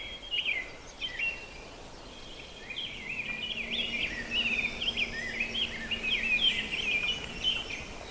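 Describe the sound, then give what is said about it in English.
An American robin sings a steady run of clear, warbling phrases, moderately loud, out on a bog, with a faint low hum in the background and no talking. “Just as I think I'm close enough, a robin starts singing, so I guess we're just not going to get that ruby-crowned kinglet.”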